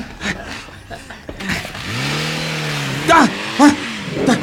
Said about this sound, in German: Da fährt ein Auto weg.